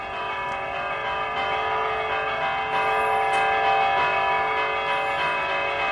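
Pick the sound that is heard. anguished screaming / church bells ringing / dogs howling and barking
church bells ringing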